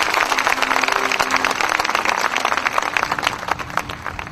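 A large church audience claps steadily and densely as a clap offering to the Lord, a continuous wash of many hands applauding, with faint tonal hum beneath and no voices speaking.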